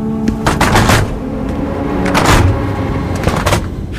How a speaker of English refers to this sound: What was that? They're closing the door, that's all. Hatch, whatever they call it.